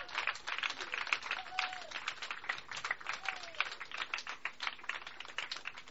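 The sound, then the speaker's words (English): A crowd applauds steadily for several seconds as praise and cheering for God, a dense, even patter of many hands clapping, with a couple of faint rising whoops or whistles mixed in. “Could we just give him, like, honor and glory and praise and cheering?”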